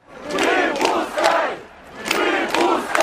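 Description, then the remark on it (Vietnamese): A crowd of protesters on Tverskaya Avenue in Moscow, at a protest linked to Navalny, shouting together in loud, rhythmic bursts, voices rising in chanted waves with a brief dip before the chant swells again. “Les trottoirs de l'avenue Tverskaya sont noirs de monde, mais les manifestants n'ont aucune chance d'accéder à leur point de ralliement, la place du Manège, située à quelques centaines de mètres.”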